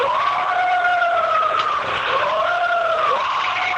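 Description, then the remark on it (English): A recorded loud, sustained wailing scream attributed to Bigfoot, played in its non-looped version, with a strained, harmonic tone, its pitch wavering and sliding up and down for about four seconds without a break. No one talks over it. “Now, let me play the non-looped version of that scream.”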